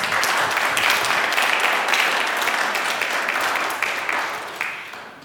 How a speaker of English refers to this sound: Come on, let's a round of applause.